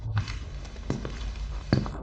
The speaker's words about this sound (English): As the weekend approached, every afternoon I listened for the noises coming from downstairs. At the same time as always, the doors could be heard, first the one to the yard and then the one to the office.